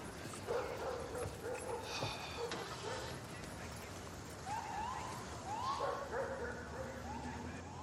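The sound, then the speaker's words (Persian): Detection dogs bark repeatedly, with short yelping barks scattered across the scene over a noisy outdoor background and faint voices; six weapon-detection dogs searching Brandywine Park on a very cold night. “اون سگا اینجا یه چیزی پیدا کردن.”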